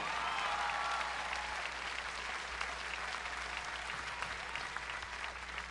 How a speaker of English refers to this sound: Big applause.